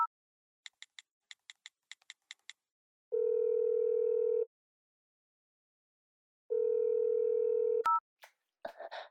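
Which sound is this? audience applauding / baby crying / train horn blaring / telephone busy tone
telephone busy tone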